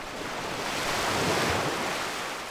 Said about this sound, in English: Ocean wave. Here's ocean wave, related to water.